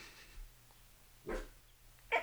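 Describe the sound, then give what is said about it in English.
A dog barks a few times in short, separated bursts, the last one sharper and louder, against a low steady background hum with no talking. “So the dogs are onto something now.”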